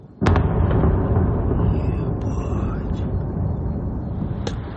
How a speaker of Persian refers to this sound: ساکنان اودسا یک شنبه با صدای انفجار از خواب بیدار شدند.